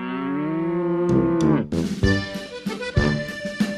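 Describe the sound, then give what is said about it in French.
A Montbéliarde cow moos loudly, one long drawn-out low call followed by rougher, broken bellows and snorting sounds, with no one talking. “C'est ici que fut créé, après la guerre de 1870, la vache montbéliarde.”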